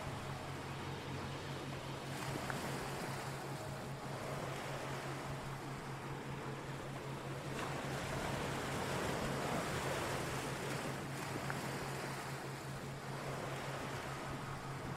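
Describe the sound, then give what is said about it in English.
A steady wash of ocean waves, with broad surf swelling and receding every few seconds over a constant low hum. No one speaks, and the sound stays even and moderately loud throughout. “And in this relaxed state, I want you to imagine yourself floating in the ocean.”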